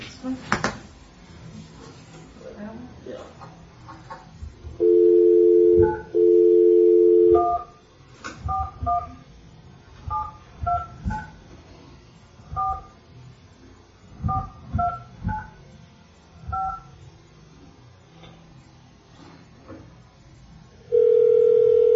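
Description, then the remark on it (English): A phone line's dial tone sounds in two steady bursts, followed by a quick series of electronic keypad beeps as a cell phone number is dialed, then a long ringing tone begins near the end. “Let's call him and see where he's at.”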